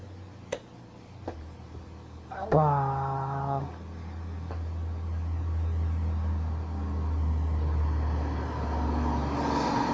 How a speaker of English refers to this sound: Oh, truck.